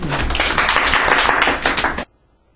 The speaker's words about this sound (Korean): 박수.